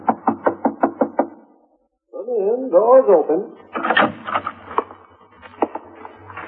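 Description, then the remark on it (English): A quick run of about eight sharp knocks, a short silence, then an apartment door creaks open with a wavering squeal, followed by some scattered clatter and movement. “Doors open.”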